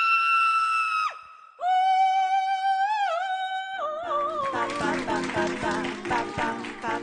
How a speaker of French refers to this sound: moi, quand j'ai le trac, ce que j'aime, c'est pouvoir crier un bon coup.